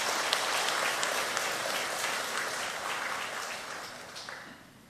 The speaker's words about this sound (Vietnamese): Cho một tràng vỗ tay để tán dương.